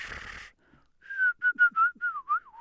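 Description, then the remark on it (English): A person whistles a short birdlike call, an unvoiced sound made without the vocal folds vibrating: a series of quick, chirpy notes in an uneven rhythm, fairly loud, following a brief breathy noise and a pause. “really simple examples of that are something that's based around a whistle, like some kind of bird.”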